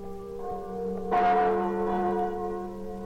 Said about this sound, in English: These are the chimes of Notre Dame, Our Lady of Paris, tolling out across the River Seine, ringing in one of the merriest Christmases that France has ever known.